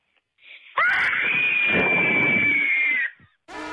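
A child from Fall Creek lets out one long, loud, high-pitched recorded cabin fever scream lasting over two seconds, steady and strained, then it cuts off; a brief burst of another sound follows after a short pause.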